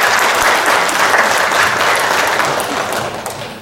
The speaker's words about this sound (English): And so just give her a big hand of applause.